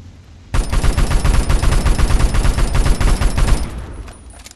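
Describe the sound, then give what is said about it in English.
A mounted video-game gun fires a rapid, continuous burst for about three seconds, a loud dense stream of sharp shots that stops abruptly. No one speaks. “It could be a gun that I haven't played with yet in Far Cry 2.”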